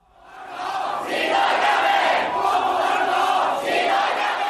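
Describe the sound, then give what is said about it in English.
A large protest crowd in Hong Kong chants the movement's slogan 'Liberate Hong Kong, the revolution of our times' in unison, many voices rising together into a loud, sustained roar of shouting that swells and holds steady with rhythmic surges. “Liberate Hong Kong, they're shouting.”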